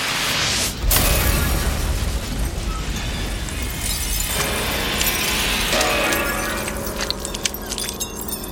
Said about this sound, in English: Instead, the stone sarcophagus burst open with a shattering sound.